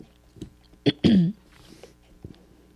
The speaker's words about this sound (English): while I recover from my coughing?